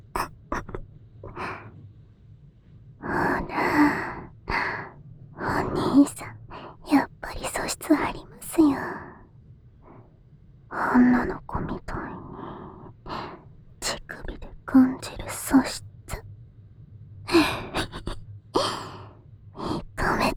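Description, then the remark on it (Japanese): Heavy, breathy panting, uneven gasps and sighs coming in quick bursts, mixed with soft whispering throughout. “しばらく続けると、抵抗が弱くなってきて、息が、はぁはぁしてくるんですよ。”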